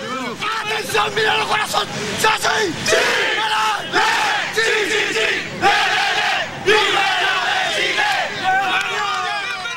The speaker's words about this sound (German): Im Campo Esperanza, im Camp der Hoffnung, in dem die Familienangehörigen ausharren, bricht Jubel aus.